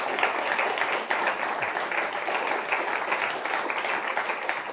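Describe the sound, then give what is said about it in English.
A class audience applauding a guest speaker, steady dense clapping that stays loud and even for several seconds without any talking. “Let's give Richard a big applause.”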